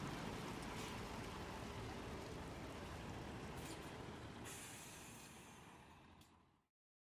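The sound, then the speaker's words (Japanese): A large bus arrives with a steady engine roar, and a sharp air-brake hiss bursts out partway through before the noise cuts off abruptly. No voices. “ちょうどバスも来たし、ラブホ行こ。”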